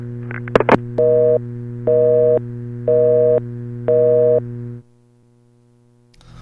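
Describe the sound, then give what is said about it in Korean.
A couple of sharp handset clicks as a phone is hung up after a test call, then a phone busy tone: four evenly spaced beeps over a steady low electrical hum, cutting off abruptly into near silence. “전화는 끊었고요.”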